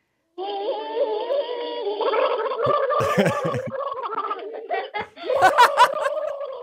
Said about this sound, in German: Okay, das klingt, als hätten sie den Mund voller Wasser. Dann geht's jetzt los. Auf die Plätze, fertig, los. Alle meine Entchen gurgeln.